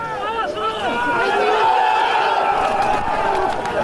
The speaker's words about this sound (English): After preventing the Bloc en tout from entering the station, the police set up a line and eventually charged a crowd that was taunting them with a familiar chant of "Everyone hates the police."